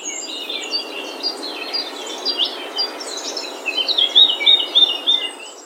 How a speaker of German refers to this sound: Okay, das ist irgendwie Vogelgezwitscher, oder?